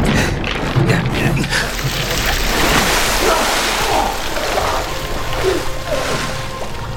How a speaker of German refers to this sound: Kippt weiteres Wasser hinein.